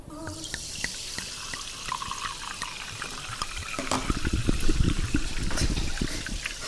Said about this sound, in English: Oh my goodness. We got that. That's live sparkling water.